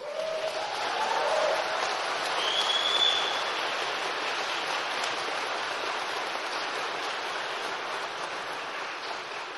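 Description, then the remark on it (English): A crowd applauds at a graduation ceremony as graduates' names are read, a steady, dense wash of many hands clapping that holds at an even level for about ten seconds with no one speaking. “You may applaud if you wish.”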